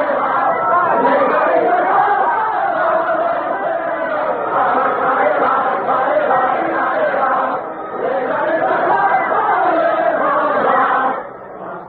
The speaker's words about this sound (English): It's Ça Ira, an old French dance to which revolutionary words have been set. They're singing about hanging all aristocrats from lanterns.